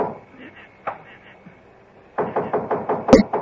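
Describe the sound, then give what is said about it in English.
A quick series of sharp, fairly loud knocks on the wooden door of a painted clapboard building, about eight raps in a steady rhythm, after a few fainter scattered taps over a low background. “And when I knocked on the door...”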